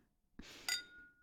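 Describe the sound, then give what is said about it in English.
Two wine glasses clink together in a toast: a soft knock, then a bright, sharp chime that rings on with a fading high tone. Fairly quiet, with no voices. “Cheers.”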